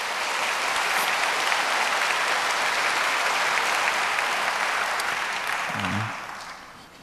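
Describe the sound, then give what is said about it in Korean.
A church audience applauds in congratulation after eleven people are proclaimed catechumens, a dense, steady burst of many hands clapping for about six seconds, then the clapping thins and tapers off, with a faint voice briefly audible as it fades. “축하의 박수 주시기 바랍니다.”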